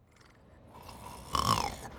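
A sleeping person snores once, heard over a call: a breathy, rasping inhale builds gradually, then peaks in a louder rattling snort with a faint whistling tone before easing off. No one speaks.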